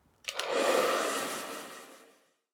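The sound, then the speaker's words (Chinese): A hair dryer blows in a short steady burst of about two seconds while drying hair, a moderately loud rush of air that clicks on and then fades away, with no voices. “这是一台吹风机，我在吹头发。”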